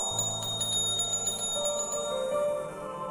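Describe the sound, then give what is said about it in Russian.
A phone rings with a bright, bell-like electronic tone, sustained and steady for a few seconds, with shimmering high overtones and no voices. “О, Боже, это она мне звонит.”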